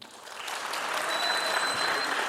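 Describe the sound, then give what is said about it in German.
Steady audience applause for a contestant in a quiz game, a dense wash of many hands clapping that swells slightly after the start and holds at a fairly even level, with no voices rising above it. “Und jetzt euer Applaus”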